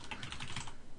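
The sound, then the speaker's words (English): Rapid typing on a computer keyboard, entering a search into Google, a steady run of quick, light plastic key clicks with no voices. “I started typing in like how much space”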